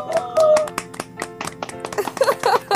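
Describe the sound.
A burst of rapid, uneven applause from a few people clapping loudly, with excited voices cheering and whooping over the claps toward the end.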